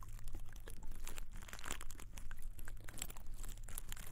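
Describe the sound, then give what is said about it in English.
Irregular dripping and crackling ticks from a pipe cleaner working in a pipe, with no water involved: scattered sharp clicks over a steady low hum and a constant fizzy hiss, with no voices. “I hear the drips.”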